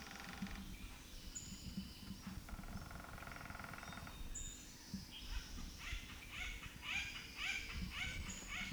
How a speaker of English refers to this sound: Acorn woodpecker.